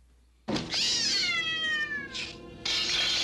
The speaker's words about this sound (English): Oh, the cat fucking boxed him and then jumped out the window.